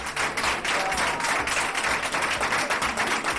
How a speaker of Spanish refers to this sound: ¿Cuántos aplausos, verdad? Emocionados.